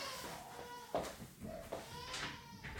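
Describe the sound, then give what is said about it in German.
A baby who has just come home with its mother screams and wails, the shrill cries muffled and rising in several strained bursts over a steady background hiss, with no talking. “Ja, also das fehlt noch, ne, dass mir hier das Baby in meinen Podcast reinbrüllt.”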